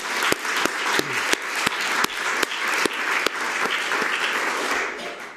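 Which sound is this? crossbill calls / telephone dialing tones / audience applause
audience applause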